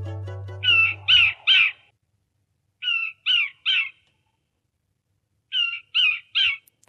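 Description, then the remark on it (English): A Micronesian kingfisher, an endangered bird species found on Guam and Palau, gives harsh, scratchy chirps in three groups of three, each burst loud, separated by pauses. Nothing else is heard except a brief low hum at the start. “That chirp belongs to the Micronesian kingfisher, an endangered bird species found on Guam and Palau.”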